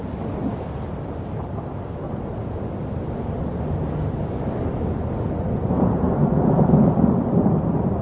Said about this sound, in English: The baboons seem to know what's coming. They've seen many thunderstorms, yet each new one seems to terrify them.